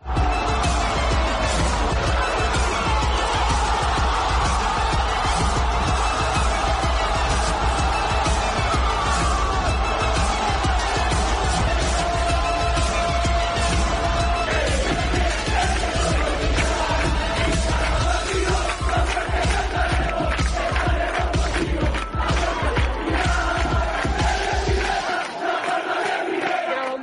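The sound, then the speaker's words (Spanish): A huge crowd of nearly 26,000 Unión Deportiva Las Palmas fans at the Estadio Gran Canaria chants "Las Palmas de primera" in unison at the derby as the players come out, a loud, dense roar of massed voices that holds steady throughout, with rhythmic pulses and a deep rumble underneath that cuts out just before the end. “Las Palmas de primera, cantaba la afición a los jugadores que saltaron, que salieron del vestuario para llevarse la ovación de todos los aficionados de la Unión Deportiva Las Palmas.”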